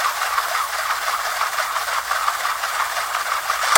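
A cassette tape being wound by hand with a pencil: a steady, dry plastic rattle and whir that runs unbroken, ending in a sharp click.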